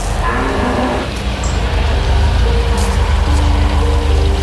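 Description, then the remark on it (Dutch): A small black car's engine rumbles, a steady low drone with faint tonal whine as the car rolls in and slows to park under poplars by a barn, with no one speaking. “Hij parkeerde zijn zwarte autootje onder de populieren, liep een paar keer om de schuur en dacht na.”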